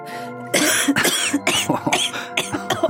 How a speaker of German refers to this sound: Er nimmt sich eine Zigarette. Zündet sie an, hält sie mir hin. Ich nehme einen Zug. Huste.